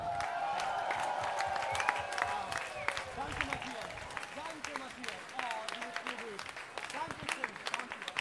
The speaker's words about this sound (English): Listen. Don't clap for us. Clap for yourselves. Because you guys are fantastic. For you!